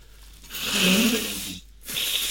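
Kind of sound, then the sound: human body sound, nose blowing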